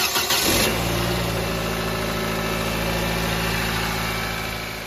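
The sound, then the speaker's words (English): A car engine, just repaired after an old battery and a significant vacuum leak, cranks briefly, catches and starts, then settles into a steady idle with a low, even rumble and faint vibration that continues to the end. “Now let's turn on the vehicle and see how it sounds.”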